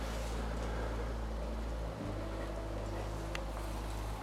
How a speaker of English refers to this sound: But you can use the little Stirling engine on top if you want. It actually works pretty good. That's it going.